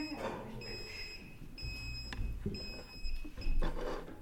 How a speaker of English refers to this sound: I didn't know it was going to beep, I thought it was the fire alarm.